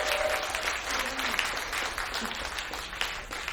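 audience applause

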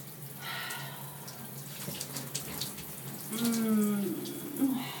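hot shower water running

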